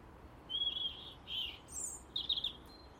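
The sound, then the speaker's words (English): Birds chirp in a few short, high-pitched bursts, with a quick rapid flurry of tweets near the end, over a soft steady background hiss. No one speaks. “You know, the strange thing is they're extremely timid birds.”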